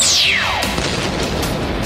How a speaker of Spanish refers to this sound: Una potente explosión se escuchó y los zombies, que estaban en un letargo, reaccionan y corren hacia donde se escuchó la explosión.